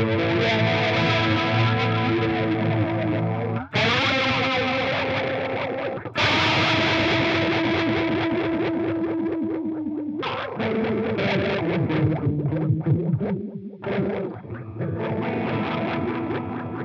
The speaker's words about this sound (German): Hier hätte es auch den Jet Flanger gegeben. Um den nochmal kurz versuchen hier.